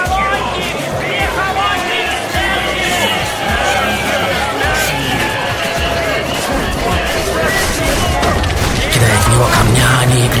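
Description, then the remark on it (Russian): A crowd yells and shouts continuously as a victim is dragged face-down along the ground from the royal house to a temple, kicked and beaten with sticks; many voices overlap into a loud, chaotic roar that holds steady for the whole stretch, with occasional thuds and crashes mixed into the din. “Потом более 2 миль от королевского дома до храма беднягу волокут лицом по земле, а сопровождающее это зрелище массовка вопит.”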